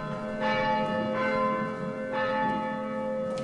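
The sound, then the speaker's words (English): Church double bells, rung by a nun for the Feast of the Ascension as the call to worship in Glencairn, ring in steady, overlapping strokes. Their long metallic tones sustain and blend into a continuous resonant hum, moderately loud, with no voices. “On this day, Sister Michelle rings double bells for the Feast of the Ascension.”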